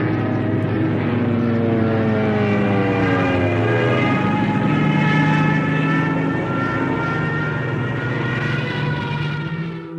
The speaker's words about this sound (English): On the beaches of Dunkirk in France, British soldiers were strafed by the Stuka dive bomber. The aeroplane's screaming vertical attack used terrifying new Nazi technology.